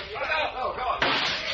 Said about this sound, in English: I'll shoot the lights out and you skin for the front door.